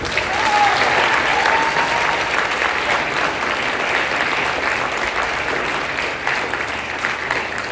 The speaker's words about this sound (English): And one final round of applause.